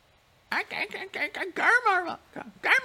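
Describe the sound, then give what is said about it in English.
Monkeys calling in a quick series of loud, harmonic hoots and squeals, their pitch bending up and down, with one longer wavering cry in the middle. “Can you hear the monkeys?”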